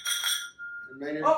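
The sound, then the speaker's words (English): Glasses clink together in a bright toast, leaving a thin ringing tone that fades briefly before voices start talking. “Thank you, everyone. Cheers.”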